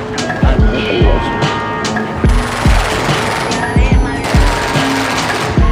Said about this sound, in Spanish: Todos esos disparos provienen de armas automáticas, un alto poder de fuego que todos los días sorprende.